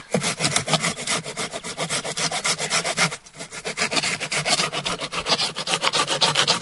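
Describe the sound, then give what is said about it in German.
A hand saw rasps steadily through a branch laid on a log in quick, regular back-and-forth strokes, loud, with a brief pause around the middle before the sawing resumes. “Wir haben das jetzt auf den Stamm gelegt, genau. Und dann ich säge jetzt einfach mal los.”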